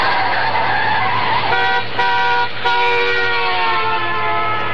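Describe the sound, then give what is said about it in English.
A car being driven to work, with a loud, steady engine drone and a rising whine, broken by two brief dips like gear changes, then settling back into a constant hum. No one speaks. “As I drove to work, I could hardly keep my mind on the road.”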